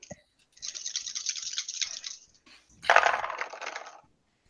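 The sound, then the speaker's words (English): Dice are rolled on a table for a strength check, clattering in two quick bursts of rattling and tumbling, fairly loud, with no one speaking. “Just roll me a quick strength check.”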